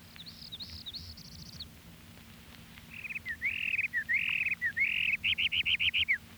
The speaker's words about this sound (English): Parula warbler.